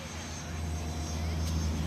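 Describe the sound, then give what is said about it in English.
Airport ambience dominated by a steady, low droning aircraft engine hum with a broad rumbling wash, constant and moderately loud for the whole stretch, with no clear speech on top. “When I got to the airport, I found Suzanne's plane.”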